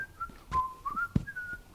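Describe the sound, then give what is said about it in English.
Someone whistles a short, wavering tune of gliding notes while walking off, clear, with a couple of brief soft thumps in the background and no talking. “And the person just gave it and said, "Praise the Lord," and walked off whistling.”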